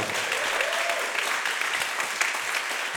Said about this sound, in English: We've had a great time putting the program together and playing it for tonight, and you've been just such a fabulous audience. So once again, a big round of applause